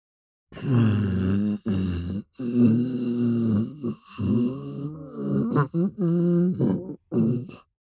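A voice imitates a hungry stomach growling: a run of low, groaning, gurgling rumbles broken by short pauses, with wavering pitch, fairly loud and alone for several seconds.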